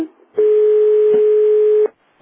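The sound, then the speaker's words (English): A phone conference line entry or exit tone from another caller's phone system sounds once: a loud, steady electronic beep holding for about a second and a half before cutting off, with no talking around it. “I can hear entry and exit tones for other phone systems.”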